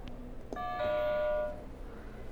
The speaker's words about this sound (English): Great job! You can go ahead and hit a buzzer.